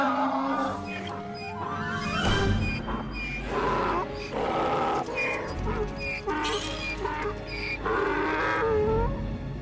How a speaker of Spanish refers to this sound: No hagan movimientos bruscos. Este burro tiene una patada de rayo.